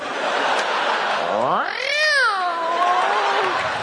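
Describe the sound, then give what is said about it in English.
Comedian Jim Gaffigan, in a stand-up bit from an album, imitates a cat's meow as a Halloween cat woman wanting candy, one long drawn-out cry that rises and then slides down, loud over a steady background hiss. “Kitty wants some candy.”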